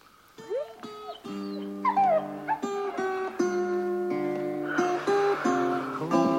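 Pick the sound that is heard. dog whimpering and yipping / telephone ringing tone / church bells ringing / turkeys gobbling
dog whimpering and yipping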